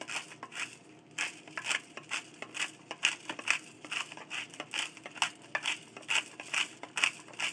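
A pepper grinder being twisted, giving a steady series of gritty, crunching bursts roughly two or three per second, fairly quiet, with no talking.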